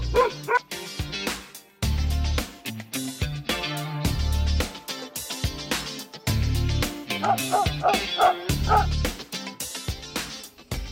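Mixed-breed dogs waiting for a home bark and yip repeatedly in quick, uneven bursts, loud, with some higher-pitched yelps and whimpers mixed in over a busy background.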